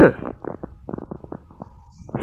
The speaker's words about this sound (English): Oh, goodness. That's terrible. I have to edit out my coughing.